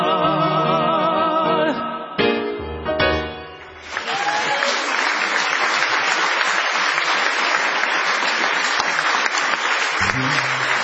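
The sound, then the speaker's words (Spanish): A few seconds of a sung waltz played by a family orchestra give way to loud, sustained audience clapping, a dense steady wash of many hands that lasts about six seconds before dropping off. “¡A ver, niños, de esas palmas, hombre!”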